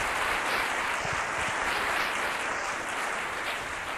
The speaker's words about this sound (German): dass wir auch Sie mit einem herzlichen Applaus begrüßen.